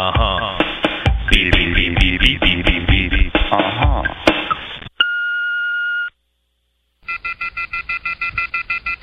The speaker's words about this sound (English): As you can see, we're not at home. Or else we would have got the phone. Please leave your message at the tone.